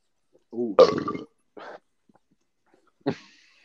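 loud burp

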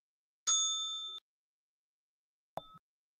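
bell ding

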